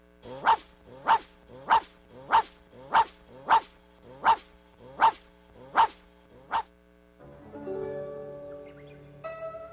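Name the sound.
small dog barking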